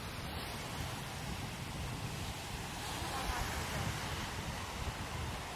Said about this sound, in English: The wind seems to have really picked up, though.